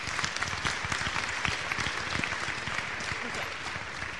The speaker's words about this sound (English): So we can give her applause even though she's not here.